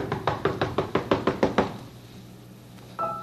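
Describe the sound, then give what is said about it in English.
A rapid series of about nine firm, evenly spaced knocks on a door, fairly loud, followed by a short quiet pause and the start of another faint sound. “Oh, there's somebody at our door.”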